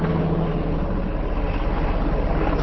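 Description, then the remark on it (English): Helicopters drone overhead at night, around 8 o'clock in pitch dark, over Algiers, a New Orleans neighborhood just south of the Mississippi River, in a steady, continuous low rumble with a constant engine hum, fairly loud and unbroken throughout, with no one speaking. “It is pitch dark, and the only sounds out are the crickets and the helicopters constantly flying over.”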